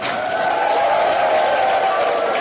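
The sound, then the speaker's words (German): An audience applauds steadily for the team from Lausitz, a dense wash of many hands clapping that holds at an even, fairly loud level for the whole moment, with no voices standing out. “So, von daher nochmal großen Applaus für das Team aus der Lausitz.”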